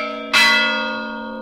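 A church bell in a bell tower that also serves as a watchtower strikes once for the programmed, electrified half-hour chime, a sharp metallic hit that blooms into a rich, sustained ringing tone and slowly fades, with no voices over it.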